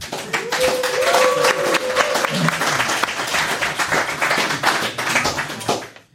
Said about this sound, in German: Von daher sind wir erstmal sehr begeistert, dass hier so viele Leute gekommen sind. Das freut uns schon mal sehr. Da dürft ihr euch jetzt gerne einmal selber Applaus geben.